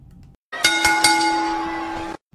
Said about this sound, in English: So everybody out there listening, you're going to hear a quick wrestling bell, and we'll be right back at it.